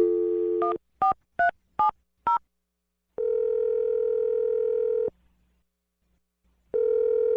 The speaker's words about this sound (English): Here we go. Let's go. All right. I'm going to dial the phone number. Let's see if he answers, all right?